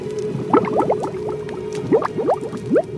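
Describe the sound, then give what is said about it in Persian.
Thick liquid boiling and bubbling steadily, with clusters of popping bubbles bursting over a low continuous churning rumble, close and moderately loud, with no voices. “هنگامی که در جهنم افکنده شوند، صدای رعب‌انگیزش را بشنوند در حالی که پیوسته می جوشد.”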